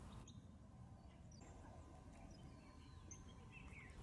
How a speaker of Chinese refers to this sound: 站在这里能听到鸟叫声和流水声，感觉很舒服。